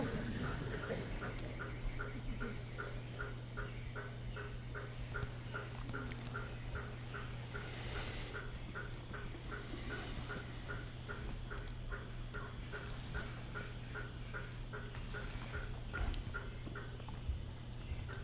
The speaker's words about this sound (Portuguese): The hammer frog is back. Sapo martelo voltou.